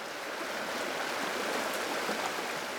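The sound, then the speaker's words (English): A steady rush of the Stillwater River in southern Montana, flowing east along the Beartooth Mountains, broad and continuous with a bright, hissing texture, unchanging throughout with no voices. “The Stillwater River flows across southern Montana.”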